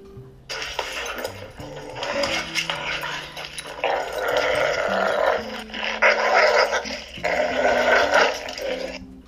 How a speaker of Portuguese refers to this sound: De repente, eles ouviram rosnados e latidos.